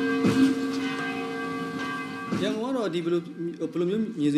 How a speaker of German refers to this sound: Die Ringbahn, die Essensverkäuferinnen auf dem Bahnhof, die Gläubigen an der Schwedagon-Pagode, aber auch die Glocken der Kathedrale.